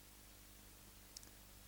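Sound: computer mouse clicking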